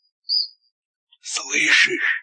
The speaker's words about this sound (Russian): Слышишь, это сверчок трещит.